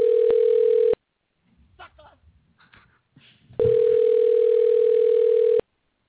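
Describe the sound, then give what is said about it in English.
An outgoing phone call's ringback tone: a steady, mid-pitched electronic tone sounds for about a second, pauses while faint voices murmur, then returns loud and unbroken for two seconds. “It's calling.”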